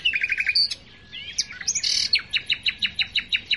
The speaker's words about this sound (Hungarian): azért ilyen egyszerű színezetű, mert a bokrok sűrűjébe talajon költ, és nyilván, hogy nagyon jó barnás rejtőszínűek kell, hogy legyen, és ezt a nem túl színpompás tollazatát az énekével ellensúlyozza. Európa legszebb hangú énekes madaraként említik.